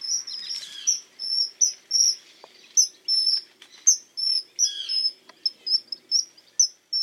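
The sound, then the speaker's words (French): A common kingfisher calls near water, giving a rapid series of shrill, piercing whistled calls, short bursts repeated irregularly, over a faint low background with no voices. “Et le martin pêcheur vole à toute vitesse, telle une flèche bleu-azur au-dessus de l'eau pour plonger et attraper ses proies.”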